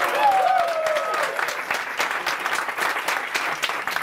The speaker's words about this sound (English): I want the loudest clap for that man, except for the two Patriot fans here.